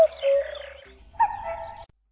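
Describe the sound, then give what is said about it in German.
A common cuckoo calls twice, each a hollow, sustained note with a short pause between. The call is clear, with no voices and only a faint background hum. “Was der Kuckuck damit sagen will?”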